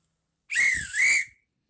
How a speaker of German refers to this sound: ich würde sagen, Nils, wir pfeifen an